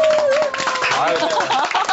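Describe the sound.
A burst of applause from a group, with dense, rapid claps running steadily for about two seconds while voices whoop and talk over it.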